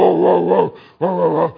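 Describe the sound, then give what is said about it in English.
A big dog inside a house gives two deep, loud, drawn-out barks after a knock at the door, with a short pause between them and no other sounds around. “Well, you know that the people inside heard it when the dog barks. And I'll tell you what, it was a big dog.”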